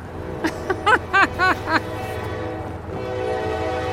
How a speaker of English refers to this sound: Just then, a train horn sounds, and it's a rare sight. Cars full of coal.